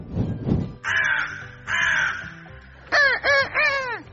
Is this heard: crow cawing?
yes